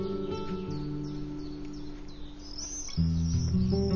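Thin, shrill screaming calls of common swifts flicker high above, several brief cries scattered throughout, fairly faint beneath a loud, steady layer of low sustained musical tones.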